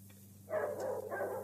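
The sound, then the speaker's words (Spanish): Several dogs bark in two quick, overlapping bursts, sounding muffled over a steady low hum, with no talking. “Me parece que hay varios perros.”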